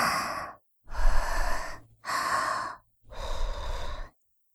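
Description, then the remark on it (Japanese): Four slow, breathy, lukewarm exhalations blown deliberately, each a soft airy rush separated by short silent pauses, with no talking. “私の息、おちんちんくんにわざと当てて、お漏らししちゃわない程度に、生温かい吐息で刺激して。”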